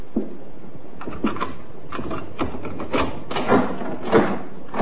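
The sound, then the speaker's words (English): A key rattles and clicks in a lock, then a door with a broken frosted glass panel swings partly open and jolts to a stop against a chain, with a series of sharp knocks and metallic clatters. “Funny, I've never known your mother to use the chain on the door in her life.”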